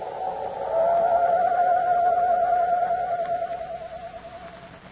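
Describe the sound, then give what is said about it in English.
A voice imitates an owl's screech: one long, wavering, mid-pitched wail that holds steady for a few seconds, then slowly fades out, with no talking. “No wonder the mournful screech of the owl had a familiar sound to Chuck.”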